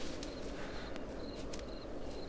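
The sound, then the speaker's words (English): Slow, evenly spaced footsteps pace up and down across the ground, a handful of soft steps over a steady outdoor hiss, with faint insect chirps trilling in the background. “He paces up and down, trying to keep warm.”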